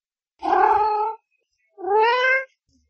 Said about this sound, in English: Here's a lovely kitten, the woman said.